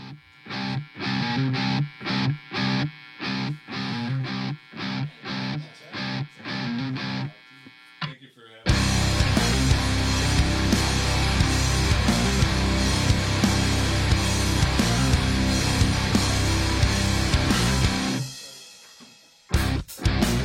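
A band's song intro kicks off with tight, rhythmic staccato hits separated by brief gaps, then bursts into a loud, continuous wall of distorted guitars and drums with no vocals yet.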